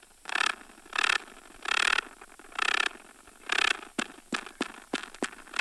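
A male spider's vibration signal, involving its pedipalps (two little leg-like appendages near its mouth): five broad, rasping scrapes at a steady pace, then a quick run of short, sharp clicking beeps. No voices.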